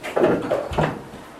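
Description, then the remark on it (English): A chair is dragged and bumped across a hard floor while seating is being arranged, making three short scraping knocks in quick succession before the sound fades to quiet. “And the chair can come this way.”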